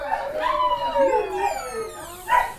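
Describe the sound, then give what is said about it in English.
Several dogs recovering in a veterinary ward howl together in long, wavering, siren-like tones, with a couple of sharp barks breaking through near the start and end. The chorus is loud, with no one talking. “We're going into a room with loads of dogs.”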